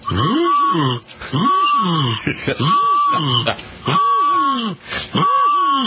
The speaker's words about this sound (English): I've had this one bird that comes back every year, and he has the same call every single year